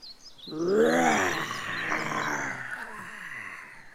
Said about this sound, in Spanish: Oso. Gruñe malhumorado.